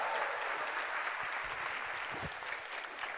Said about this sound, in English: If you'd like to take a seat, another round of applause. Thank you very much.